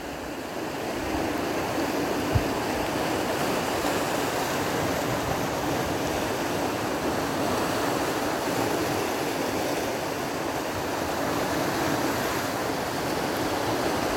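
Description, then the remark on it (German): A steady, dense wash of sea surf roars continuously, with no distinct individual breakers standing out and no voices present. “Atme diese frische Meerluft ein.”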